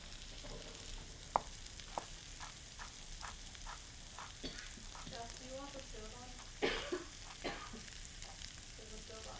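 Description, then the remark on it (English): Steady crackling sizzle of ginger stir-frying in a hot pan on an electric stove, with scattered pops and the occasional clink of a utensil scraping through, a cough or throat sound briefly mixed in. “Okay, so when we get these guys stir frying, we are going to stack up all our little gingers so they're all in a row.”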